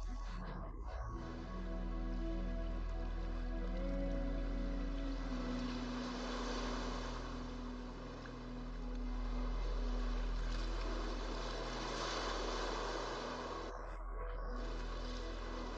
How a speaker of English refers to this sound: Close your eyes and simply focus your attention on the sound of the waves.